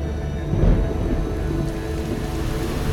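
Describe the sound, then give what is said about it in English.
Steady rain of a summer storm hisses throughout while a deep rumble of thunder swells early on and fades back into the downpour. No voices, just a continuous, fairly loud storm. “Cortex, a nice summer storm. Something to cool our guests off.”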